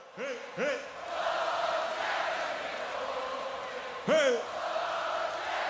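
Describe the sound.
A huge festival crowd chants a name in unison, loud rising two-note shouts bursting out twice early and again later over a constant roar of massed voices.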